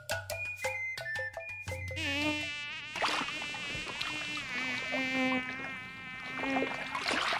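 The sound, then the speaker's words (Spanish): A high-pitched mosquito whine drones steadily, its pitch wavering up and down, preceded by a few sharp clicks at the start; no one speaks. “El dengue es una enfermedad infecciosa de causa viral que es transmitida por mosquitos, principalmente por el mosquito llamado Aedes aegypti.”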